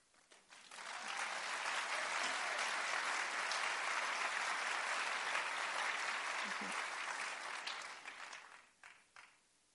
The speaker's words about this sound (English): I appreciate your applause, but you know, in my head, I'm still thinking, what is it that they're really thinking?